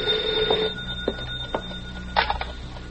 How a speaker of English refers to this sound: Don't touch that phone. Hey, you. Me? Yeah, answer it.